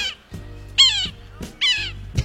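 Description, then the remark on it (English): Two loud, nasal, mewing squeals from a yellow-bellied sapsucker giving its mating call, each sliding downward, with a short pause between them over a low steady hum. “Let's provide it the proper music while the yellow-bellied sapsucker is there making that sweet bird love.”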